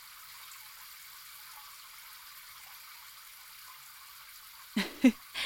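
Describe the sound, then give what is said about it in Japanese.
A steady, hissing spray of shower water runs evenly for several seconds as someone is rinsed off at the end of a massage, then a few brief, louder splashes break in at the end. No one speaks. “最後にシャワーで流すな。”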